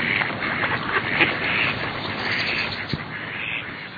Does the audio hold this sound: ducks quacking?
yes